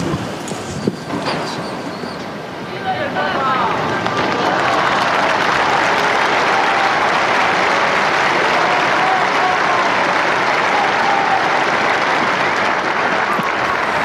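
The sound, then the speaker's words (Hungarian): A large crowd breaks into applause after a papal blessing, greeting the Pope. The clapping swells after a few seconds into a dense, steady roar, staying loud and unbroken to the end. “Ma sem marad el a szokásos taps és a Szentatya köszöntése, az ő szavainak, az ő áldásának a megköszönése, és talán mivel hallottuk, hogy sok fiatal van, ugye ők is hallatják a hangjukat,”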